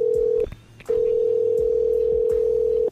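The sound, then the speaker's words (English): A steady, mid-pitched ringback tone of an outgoing phone call: a brief burst, a short pause, then a long unbroken ring of about two seconds. It's loud, with faint low thuds underneath and no talking. “And it's ringing.”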